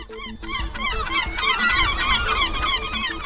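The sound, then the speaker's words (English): A flock of seagulls calls noisily, many harsh, overlapping squawks and cries layered into a loud, continuous chorus with no voices present. “to stop seagulls stealing your food.”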